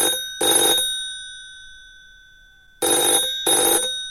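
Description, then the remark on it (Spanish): A telephone rings in three bursts: one long ring, a pause of about two seconds, then two shorter rings close together, each a loud buzzy tone with sustained high overtones. “al teléfono, es para ti.”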